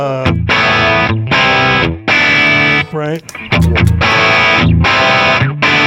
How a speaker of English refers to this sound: which is another sort of low gain overdrive. Yeah. But it has a top end that I like. Like, if I was going to hit this one to fatten something up, I'm going to hit this one if I wanted to have a little bit of a chime and seem a little more expensive.